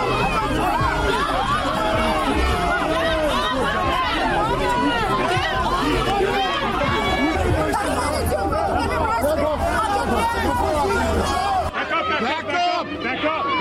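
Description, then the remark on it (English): A dense protest crowd of many overlapping voices yells and chatters steadily and loudly, shouting 'shame' as police arrest someone on the ground, a continuous agitated babble that thins out abruptly near the end. “People are shouting shame.”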